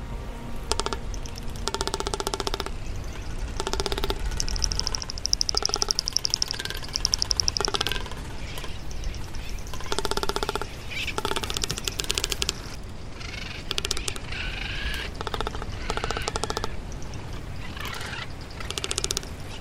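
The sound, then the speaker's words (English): A male marine bird's mating call: harsh, rhythmic chattering pulses with buzzy harmonic tones, repeated steadily for about twenty seconds, with no voices. “Now here's a sample of the male's mating call, courtesy of the Cornell Lab of Ornithology.”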